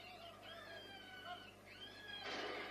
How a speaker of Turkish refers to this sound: O sesler tavşanlardan mı çıkıyor abi?